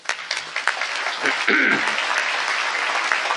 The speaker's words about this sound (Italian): Ho bisogno di un applauso di approvazione.